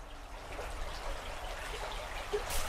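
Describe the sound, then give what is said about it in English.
Steady river water flowing where the Sorin River meets the Camlin River, on a farm just outside Ballinalee, a continuous soft rushing and trickling texture, with no voices. “So we're here at the Camlin, at the meeting point of the Sorin River and the Camlin River.”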